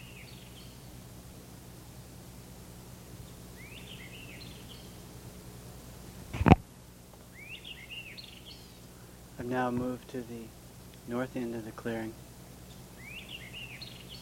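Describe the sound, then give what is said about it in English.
A bird, unseen in dense undergrowth by the North Swamp power line at pole S3, sings short, high warbling phrases that repeat every few seconds, soft against a steady hiss, at 9:10 on 13 March. A sharp knock sounds once, and a man speaks briefly between the songs. “There's a White Iveria singing here.”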